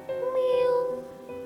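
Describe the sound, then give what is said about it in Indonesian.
A single thin, high-pitched meow from a small, weak kitten in a gutter near a house, drawn out for most of a second, faint against a quiet background. “Di selokan dekat rumahmu, aku melihat ada kucing kecil di dalamnya.”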